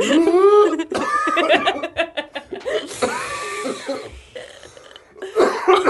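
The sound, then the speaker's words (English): A harsh, rasping cough erupts repeatedly, loud and strained, with gravelly, whooshing bursts that grind on for several seconds like a struggling machine. “the vacuum cleaner sound is getting worse.”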